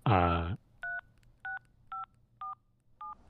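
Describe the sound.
Five short, evenly spaced keypad dialing tones beep one after another, each a clear two-pitch chirp, following a brief burst of a loud voice at the start.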